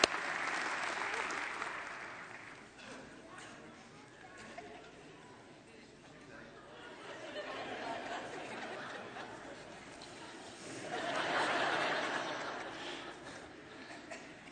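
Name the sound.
audience applause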